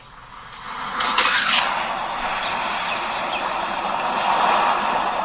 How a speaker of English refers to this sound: Alright. I think this is the waves. Yeah.